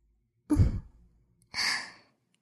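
Two soft exhalations blown into an ear at the microphone, the first breathy and rumbling, the second a longer airy hiss, separated by a short silence. No talking.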